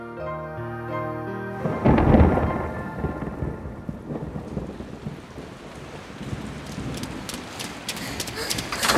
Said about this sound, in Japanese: ああ、すごい雨ね。 しばらくこの温室で雨宿りしましょう。